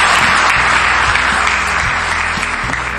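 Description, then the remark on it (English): A crowd applauds a distinguished panel steadily, a dense wash of many hands clapping at once, loud and sustained for the full few seconds with no voices standing out. “Well, let's give this distinguished panel a big round of applause.”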